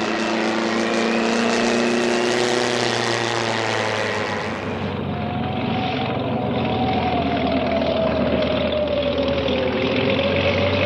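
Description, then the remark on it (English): A propeller airplane engine drones loudly and steadily as the plane lands, its pitch dropping and the roar easing midway as it slows and taxis toward the end of the runway, then it hums on continuously with no voices. “I'll taxi to the end of the runway and cut the engine there.”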